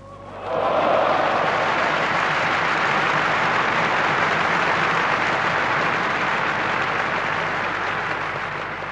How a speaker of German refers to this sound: Applaus.